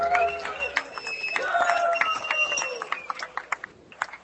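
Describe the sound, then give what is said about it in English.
A live crowd at a Political Cesspool show applauds and cheers, with loud whoops and shouts over a dense wash of clapping that thins to scattered individual claps by the end. “Give us a hand if you love us.”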